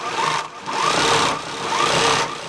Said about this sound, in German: 20 Nähmaschinen rattern emsig. An den Wänden der Schneiderei im Tiefgeschoss eines modernen Hauses in Kigali hängen bunte Kleider, T-Shirts und Anzüge, fertig zur Anprobe.